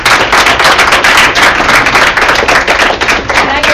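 A crowd applauding steadily, many hands clapping at once in a dense, loud crackle that holds at an even level for the whole stretch, with no voices over it.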